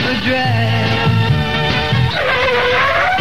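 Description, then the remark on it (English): Loud, sustained tire screeching from drag racing cars, layered over roaring engines whose pitch wavers and climbs, filling the whole stretch with no voices. “Yes, it'll be a different kind of a drag when the big drags, Joey Reynolds and Sandy Beach, make tires screech this Sunday at Connecticut Dragway.”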